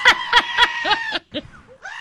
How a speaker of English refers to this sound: Is it like the screaming goat? Goat? Every time. It's the screaming goat.